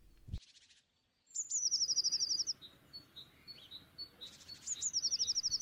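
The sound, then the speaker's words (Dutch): Small birds chirp and sing outdoors in the open-air yard of a youth facility on a sunny day, with two bright, rapid trilling phrases and scattered short tweets between them, over a low, steady outdoor rumble. “Het is vandaag een mooie dag. De vogeltjes fluiten en het zonnetje schijnt lekker in ons gezicht.”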